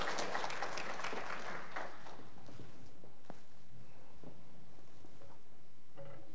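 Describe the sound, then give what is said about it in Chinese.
A crowd at a Christian church gathering, just after a prayer, claps together in a dense burst of warm applause that gradually thins out, leaving a few scattered claps and light background noise by the end. “我们再次热烈掌声”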